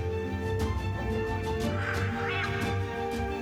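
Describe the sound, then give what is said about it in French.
A macaw of the Guatemalan subspecies gives a series of harsh, rasping calls, repeated at an uneven pace, over a constant low droning hum with no voices. “Cet oiseau magnifique était autrefois très répandu ici.”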